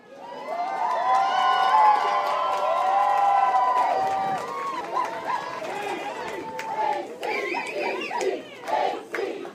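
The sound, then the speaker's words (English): A large crowd of well-wishers in a wind-driven downpour at the Ketchikan airport ferry ramp cheers and shouts loudly for the Ketchikan High School Academic Decathlon team's return from Texas, a dense wall of overlapping voices that swells for several seconds, then breaks into scattered whoops, calls and excited chatter. “A crowd of determined well-wishers braved a wind-driven downpour to cheer the K-High team's return from Texas, where they took top honors at the national competition.”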